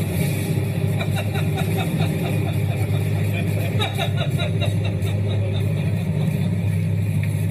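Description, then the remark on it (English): A plane engine in flight drones loudly and steadily, a constant low roar with a buzzing edge that continues unbroken from start to finish, as Jay Leno climbs out of the moving plane midair. “But recently, the 71-year-old tried out a very different kind of stunt, climbing out of a moving plane midair.”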